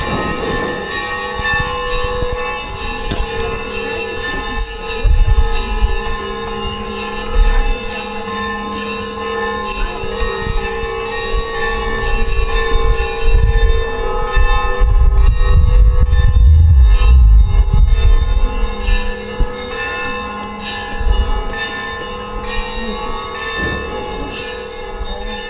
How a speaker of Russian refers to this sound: Праздничную атмосферу события дополнил колокольный звон.